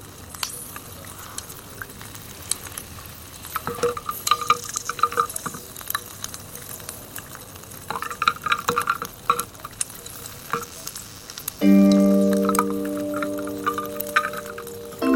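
Air bubbles escaping from a very old ice core, about 100,000 years old, recorded at the Laboratoire des géosciences de l'environnement in Grenoble; a dense fizzing crackle of tiny pops and clicks, irregular and steady; near the end a sustained musical tone enters over it.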